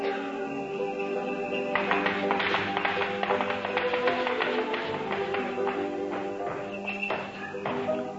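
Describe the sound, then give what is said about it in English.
A run of footsteps and tapping on a roof, made by somebody up on the roof, irregular knocks clustered for several seconds over a steady background hum of sustained tones, moderately loud. “What's that? There's somebody up on the roof.”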